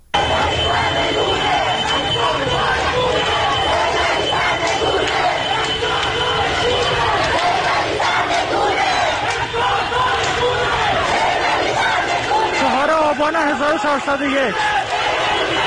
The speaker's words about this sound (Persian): صدای یکی از اعتراض‌ها رو در محله شریعتی تهران میتونیم بشنویم.